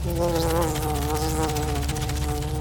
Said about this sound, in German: Denn in dem Augenblick, als Ruben hineinstieg, schloss sich hinter ihm die Tür und er war darin gefangen, zusammen mit einem herumfliegenden Käfer.